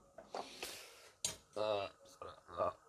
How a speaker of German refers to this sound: So, ah ja. Eine Gabel vom Spargel aus dem Wasser holen brauchen wir natürlich auch noch.